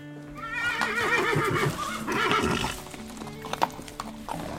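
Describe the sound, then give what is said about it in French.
A horse whinnies loudly at the stables, two long quavering neighs in a row, followed by a few scattered hoof clops on hard ground with low stable background noise. “on va aller aux écuries pour attacher le cheval”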